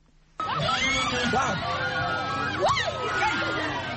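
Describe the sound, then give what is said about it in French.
A crowd of the Peul community bursts into loud, shrill cries of joy at a flagellation rite of passage during the Gani festival, as a young man takes whip lashes without flinching; many voices whoop and ululate together in rising and falling wails that continue without pause, energetic. “Ces cris sont des manifestations de joie devant la bravo d'un jeune homme qui a reçu sans broncher les coups de fouet, signe de son passage à l'âge adulte.”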